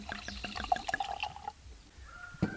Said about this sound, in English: pours a glass of a wine called Deep Red, slated for release next year.